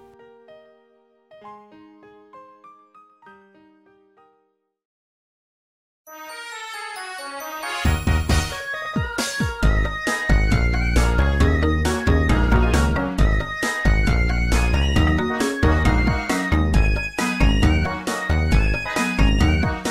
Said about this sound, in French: bien sûr d'un morceau coup de cœur, Poryo 9, sorti sur la console portable la DS One en 2008 sur Pokémon Noir et Blanc